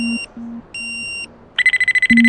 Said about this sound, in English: You'll hear it beeping faster. It beeps every time it registers a radioactive wavelength. And so the more beeps, the more radioactive waves we're in. The more beeps, the faster you have to run.